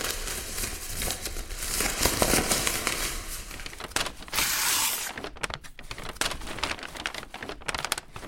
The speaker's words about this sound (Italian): se ci può commentare questo suono di carta. È lui che strappa, direi. Sì, sta strappando, proprio questo.